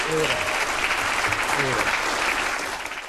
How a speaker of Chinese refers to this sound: 布兰迪斯的这番讲话受到了工党、绿党还有多名联盟党参议员的起身喝彩和掌声欢迎。